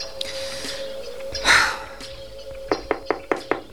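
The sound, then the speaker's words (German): Five crisp knocks on a wooden office door at a police headquarters, evenly spaced, come after a brief louder rustle or breathy sound against quiet background noise. “im Polizeipräsidium an die Tür von Inspektor Cotter klopfte”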